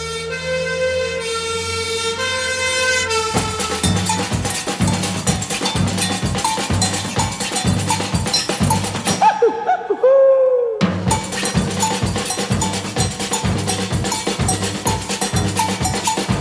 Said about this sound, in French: On va faire une pause musicale.